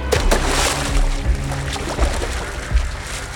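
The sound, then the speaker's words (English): Water splashing and churning, a steady rushing slosh broken by a few dull, heavy thumps as a man dives into a river and moves through it. No voices. “then dove into the river.”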